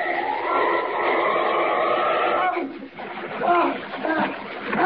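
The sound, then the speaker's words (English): A person is dropped from above into a lake and plunges into the water with a loud splash, followed by a few seconds of churning, sloshing water and thrashing, with voices faintly mixed in. “And I'm dropping you right into it.”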